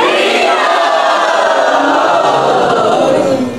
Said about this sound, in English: And so that everyone can hear us in every corner of the building from the loudest part of our hearts, let's scream Hari Bol as an appreciation of gratitude for His Holiness Sachinanda Maharaj. 3, 2, 1.